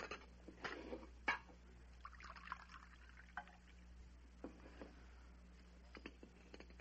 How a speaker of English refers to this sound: Pour me some coffee, one of you. Oh. Let me.